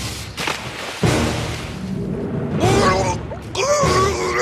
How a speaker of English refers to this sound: What we're hearing is Hans Blix falling through a trap door into a giant fish tank where he's eaten by a piranha, a takeoff from a scene in a James Bond film.